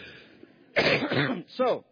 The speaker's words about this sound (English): I'm still coughing, and I just didn't want you to be disappointed that Pastor Chuck's not preaching today, so I'm coughing too.